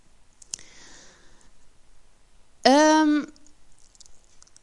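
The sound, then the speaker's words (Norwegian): A single sharp computer mouse click, clicking a search result to open it, sounds early on against a quiet background, followed later by a short, loud, voiced tonal burst before things fall quiet again. “Så hvis jeg klikker på den, så får jeg opp den.”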